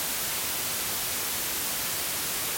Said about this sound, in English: But this is an app called White Noise for iOS. There is options for Android as well. So this is what white noise sounds like. And I think you'll probably agree with me. This is quite abrasive, quite harsh.